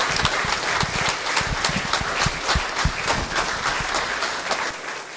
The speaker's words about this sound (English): Just give them a good applause for their service.